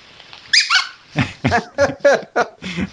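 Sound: dog whimpering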